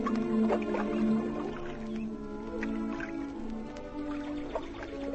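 Gentle water lapping and dripping at the grassy banks of North Lakes on a warm, sunny day, with soft irregular splashes and small wet squishes over a low steady hum, and no one speaking.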